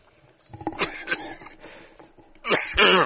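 Harsh coughing and throat clearing: a few rough bursts at first, a quieter pause, then a louder, strained hack at the end. Nobody speaks.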